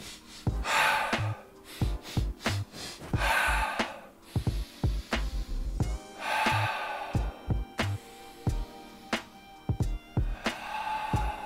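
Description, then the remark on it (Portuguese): Heavy panting breaths, matching the body's high heart rate while standing still after running, repeat in a steady rhythm of sharp inhales and exhales, easing gradually toward a slower pace with no talking. “Você vai ter que meio que acompanhar o corpo na respiração.”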